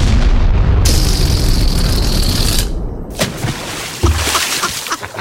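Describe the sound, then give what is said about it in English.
A loud, rumbling explosion booms, the sound of a spy balloon being shot down, its deep roar and hiss rolling on for a few seconds before a couple of sharper bursts crack through the fading rumble. No one speaks. “Now, we do have exclusive audio of the shooting down of the spy balloon.”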